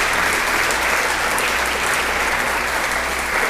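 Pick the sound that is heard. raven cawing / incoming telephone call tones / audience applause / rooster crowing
audience applause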